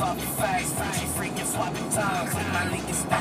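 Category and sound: vehicle, car driving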